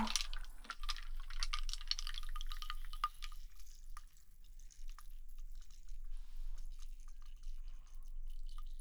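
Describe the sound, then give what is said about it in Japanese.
Fizzing of a carbonated drink: a dense hiss of popping bubbles right after pouring that thins into scattered crackles and tiny drips, with no voices. “シュワシュワ。”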